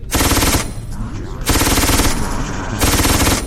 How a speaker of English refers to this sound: Machine gun. Always duck. Ultra machine gun. Is a machine gun.